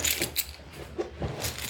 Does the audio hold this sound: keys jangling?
yes